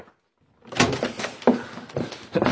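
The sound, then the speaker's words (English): The door to the mistress's room is tried and found locked or bolted, its handle rattled and shaken in several hard, uneven bursts after a brief silence, with clunks and clatters for about two seconds. “Oh, the door's either locked or bolted.”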